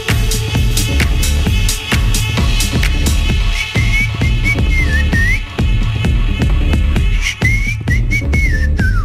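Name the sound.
whistling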